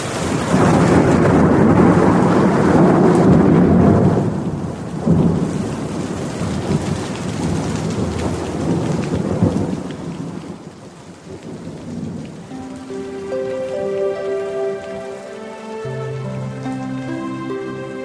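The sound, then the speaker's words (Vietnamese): Heavy rain pours steadily with a deep rumble of thunder early on, then fades as soft sustained musical tones rise over the last few seconds. “Chiều, mưa, ngồi trên xe buýt, qua màn mưa, nhìn con sông Sài Gòn, cũng lục bình, cũng nước, bỗng nhớ quê mình đứt ruột, tự dưng nước mắt tuôn thiệt dễ.”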